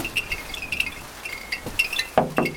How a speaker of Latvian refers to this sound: Kā jau darba dienas vidū, daļa viensētu pavisam klusas, kādā sētā dzirdami vēja zvani, bet nav nedz radio skaņu, nedz cilvēku kņadas.